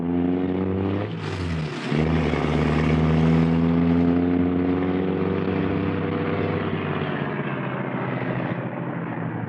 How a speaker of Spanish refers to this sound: La cancela eléctrica ha sido abierta. El hombre increíble cruza el jardín en el auto.